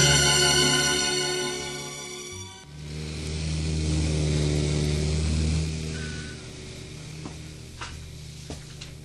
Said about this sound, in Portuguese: Aquele avião é do Major, não é? Eu conheço bem o aparelho lá no céu.